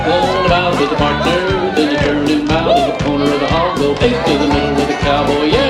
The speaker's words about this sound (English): All right, let's have some real dancing, guys. Square up. The crowd begins square dancing.